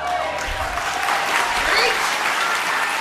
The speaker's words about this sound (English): To be clear, what Ms. Williams is saying and what her Hollywood audience is applauding is that her decision to have at least one of her children killed is what helped her win a Golden Globe Award.